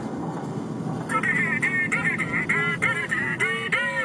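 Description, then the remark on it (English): A ringtone called "three big tones" on a mobile phone bought at South Phones plays a rapid run of short, nasal, honking tones that bend up and down in pitch, repeating steadily for several seconds over a low background rumble. “It's got three big tones, that's the name for the ring.”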